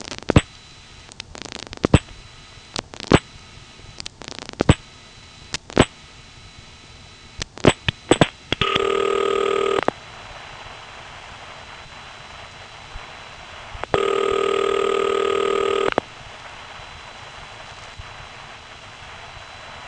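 A telephone call to a Sandy Springs crossbar 5 number, carried over T-Carrier in and out of the tandem and routed through a crossbar switch: a string of sharp relay clicks and clunks, followed by two steady buzzy ringback tones of about two seconds each, separated by quiet line hiss.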